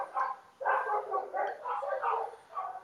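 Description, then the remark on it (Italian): Several large dogs bark and yelp outside on a still-hot late-September day in a steady run of overlapping, mid-pitched bursts, fairly loud and nearly continuous, with short gaps between calls and no voices over them. “Ci sono fuori sono un po' di cani, come sentite, non so, sì.”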